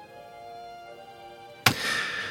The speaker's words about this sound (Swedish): Så här låter det. Bara reverbet.